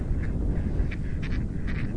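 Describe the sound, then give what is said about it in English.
Swans calling at a small pond on a very windy day, gathering in expectation of food, with several short, nasal honking calls in uneven bursts over a loud, steady rumble of wind buffeting the microphone. “The swans are looking at me like they're going to eat me.”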